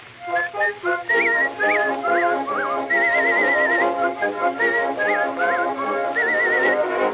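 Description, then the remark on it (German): Bright whistled phrases with quick upward flicks and warbling trills, a person imitating a siskin's call, repeated in short bursts over a sustained instrumental backing. “Um sie nun zu trösten, lädt sie ein junger Zeisig zum Souper ein und pfeift.”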